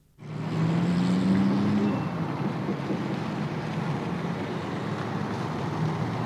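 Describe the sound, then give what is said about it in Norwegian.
A small Volkswagen car's engine hums steadily as it speeds through town, a low tone rising slightly in pitch over the first couple of seconds, with a broad rushing road noise throughout. “Den lille folkevogna, bilen til familien Folke, suste gjennom byen i akkurat stor nok fart”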